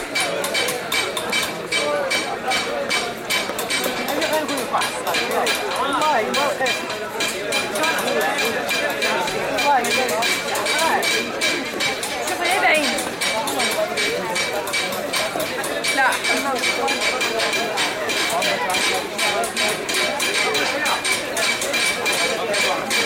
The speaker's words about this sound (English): In the Place Safarin, the stone chiselers work nearby the men who hammer the designs on brass trays. And sometimes it seems as though the rhythm of one is picked up by another.